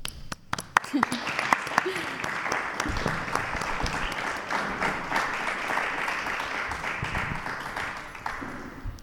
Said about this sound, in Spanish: Pues aprovechamos este aplauso que ahora os vamos a volver a pedir